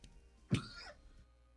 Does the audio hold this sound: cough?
yes